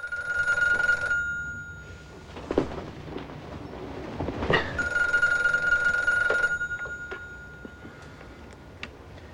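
A telephone in a motel room rings twice in daylight, each ring a bright, trilling burst of a second or two separated by a pause, with soft rustling and thumps in between as someone stirs to answer it.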